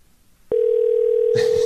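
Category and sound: signal or alarm, telephone dial tone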